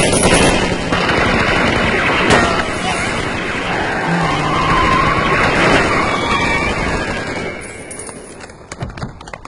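Loud, sustained bursts of rapid gunfire crackle almost continuously for several seconds, mixed with a rumbling vehicle engine, before thinning out into a few scattered shots near the end.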